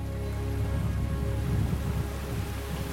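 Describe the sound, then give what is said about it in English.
Steady, dense torrential rain drums continuously over a broad low rumble in a darkened bay with boats, under brooding clouds, with a constant hiss and patter filling the scene and no voices. “Brooding clouds cast the boats in shadows as torrential rain buckets down in the darkened bay.”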